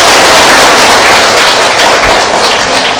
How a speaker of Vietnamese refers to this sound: Quý vị đồng chắp tay. Cho anh chàng pháo tay đi quý vị.